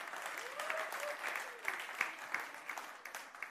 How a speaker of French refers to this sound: Merci Jésus. Applaudissez le nom de Jésus.